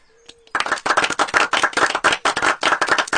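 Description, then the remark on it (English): A crowd of people breaks into steady clapping that starts abruptly and continues loudly and densely, many hands overlapping in a continuous patter with no voices. “If anybody wants to clap, now's the time to do it.”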